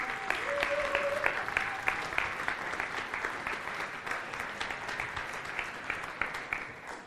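People at a morning worship gathering clap steadily for several seconds for a recently engaged couple, a dense, even patter of many hands, with a few faint voices mixed in.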